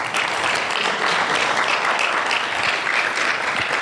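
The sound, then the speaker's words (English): A crowd applauds a speaker at a Sunday morning service, a dense wash of many hands clapping at an even, loud level for a few seconds with no voices standing out. “If we can all give her a round of applause.”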